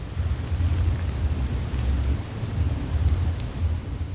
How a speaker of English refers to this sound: The sound of a bass note, music somewhere. I don't think the cafe's open yet. Maybe it's from the pub down, a few doors down. Is that sound inside or outside? Is it outside the gate?